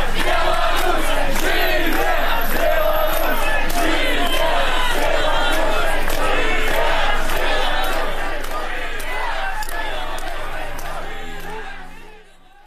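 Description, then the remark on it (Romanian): A dense crowd of street protesters shouts and yells together on a Wednesday evening, the 45th day of post-election protests, as police use water cannons and batons: a loud, continuous roar of overlapping voices, with sharp bursts rising above the din before the noise tapers off near the end. “Cuvintele sale însă au fost urmate de o nouă seară violentă, în care sute de polițiști au tras cu tunuri de apă, cu bastoane, cu pumnii și cu picioarele în oamenii ieșiți în stradă miercuri, în a 45-a zi de proteste postelectorale.”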